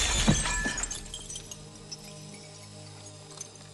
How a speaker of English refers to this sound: He tries to fire again, but Danko's powerful gun blows him backwards out of glass doors.